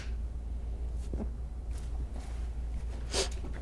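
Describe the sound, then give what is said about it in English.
A single sharp hand clap for synchronizing audio and video lands near the end, a quick bright burst over a steady low hum, with a couple of softer ticks earlier and no talking. “That was actually Governor Walker's favorite thing to do, was the hand clap, once he learned the synchronized”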